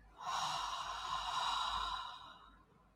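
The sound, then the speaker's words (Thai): A single long, slow exhale of breath, breathy, lasting about two seconds before fading out gently; no talking during it. Part of a guided deep-breathing relaxation exercise. “หายใจเข้าไปถึงท้องเลยค่ะหายใจเข้าหายใจออกผ่อนคลายปลดปล่อยความตึงความเครียดที่กักเก็บไว้ในร่างกาย”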